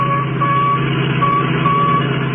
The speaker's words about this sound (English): That's the signal from the radio in the Royal Coupe that they got away with. Yeah. It's getting louder.